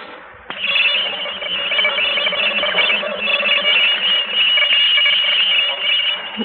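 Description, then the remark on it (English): A tape recording, played at an observatory, of a strange, sustained electronic noise pattern said to come from outer space: a steady, thin, crackling drone with faint warbling tones, like a distorted radio signal, starting abruptly and continuing unbroken. “I'm about to play a tape recording for you of the noise pattern that came from outer space earlier this”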